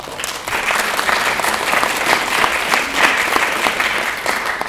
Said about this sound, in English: Definitely worthy of applause